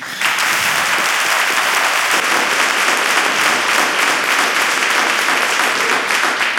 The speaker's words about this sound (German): Genau, ganz wichtig, es ist ein Live-Podcast und wenn das später zu hören ist, muss man so diesen Applaus einfach laut hören.